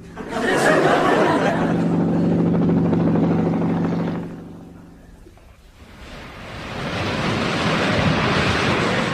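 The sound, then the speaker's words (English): A loud helicopter drone with a steady engine hum fills the first few seconds as it descends to land on an offshore rig, then fades away, leaving a broad rushing wash of sea waves and wind. “helicopters must be worrying for a man in a kilt”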